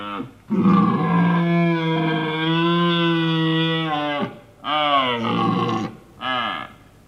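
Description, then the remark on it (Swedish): A farmed red deer stag, raised for game meat, roars during the rut: one long, loud, deep bellow lasting about four seconds, followed by two shorter, grunting roars, with no other sounds. “Att höra våra kronhjortar bröla under brunsten och dagligen se buffliga vicenter är ren och skär livskvalitet.”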